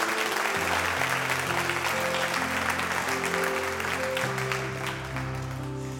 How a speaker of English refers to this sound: Amen. Come on, give the Lord a hand clap today.